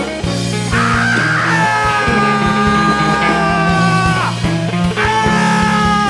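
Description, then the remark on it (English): Muffled human screams come suddenly from all directions, long wavering wails layered into a dense, loud wall of sound that holds steady for several seconds, with no speech. “The screams continue, they're muffled, they come from all directions, they are sudden, they suddenly die out, they're only imagining it.”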